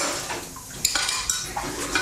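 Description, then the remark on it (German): Dishes and cutlery clink while being washed up, a series of sharp bright clatters at irregular intervals over a soft watery background, moderately loud, with no talking. “Sie finden Abwaschen langweilig?”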